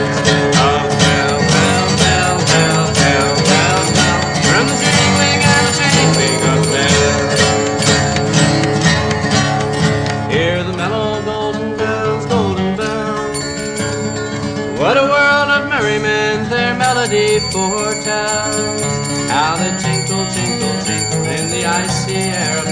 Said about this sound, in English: Turn the swinging and the ringing of the molten golden bells.